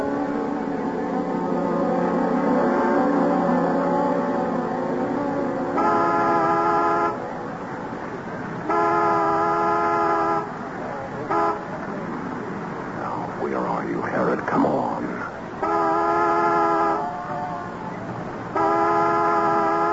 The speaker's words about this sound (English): And if one of us is late, honk the horn as a reminder. Make it too long, one short.